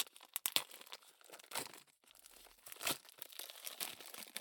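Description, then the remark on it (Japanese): Crinkling and tearing of the plastic packaging of a newly bought, smallest-size realistic dildo being opened, a package that needs scissors. Sharp rustling crackles come in uneven bursts separated by short pauses, with no voices. “あ、どっちにしろハサミいるやつだった。ハサミあるんだけどね、大丈夫、おちんちん切ってないから。”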